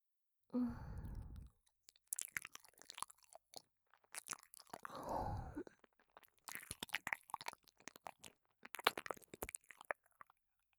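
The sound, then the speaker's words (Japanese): Wet, smacking sounds of someone licking an ear, with slurping, come in clustered bursts, broken by two long, breathy exhales. No words are spoken. “ついでにお耳も舐めちゃおうかな。”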